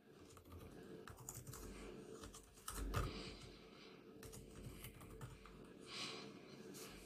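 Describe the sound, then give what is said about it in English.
Rapid, uneven clicking of laptop keys being typed on, with a slightly louder cluster of taps near the middle and no voices. “I'd be typing all day, and somehow I can't even figure out how to type words on laptop.”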